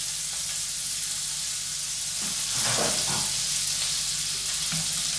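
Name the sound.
butter sizzling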